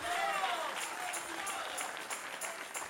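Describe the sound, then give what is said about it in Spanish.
A church audience breaks into sustained applause for the King (God), a dense steady wash of many hands clapping at an even, fairly loud level, with some voices mixed into the crowd noise. “Dale un aplauso al Rey.”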